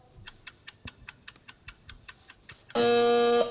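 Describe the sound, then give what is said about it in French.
An electric wheelchair: about a dozen sharp, evenly spaced ticks in a quick steady rhythm, then a loud sustained electronic buzzing whine for under a second. No one speaks. “C'était bien le fauteuil roulant électrique.”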